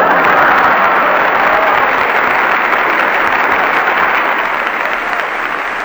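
Steady, loud applause from a crowd, a dense wash of many hands clapping that holds for about six seconds and eases only slightly at the end, with no voices over it.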